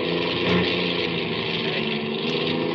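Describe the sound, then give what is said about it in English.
A getaway car's engine runs steadily during a chase, a constant droning hum with a buzzy mechanical edge, loud throughout, with no voices over it. “I can't get me out of the engine. It's going dead.”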